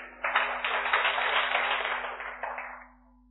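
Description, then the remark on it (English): An audience gives a big hand to a person who is coming up, breaking into steady applause: a dense wash of many hands clapping at once that holds for a couple of seconds, then thins out and fades away. No one speaks. “Come on, clap nicely.”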